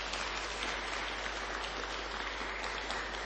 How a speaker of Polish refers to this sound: Kochani, bardzo serdecznie podziękujmy gorącymi oklaskami.